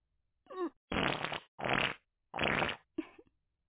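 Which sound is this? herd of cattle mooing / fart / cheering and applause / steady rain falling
fart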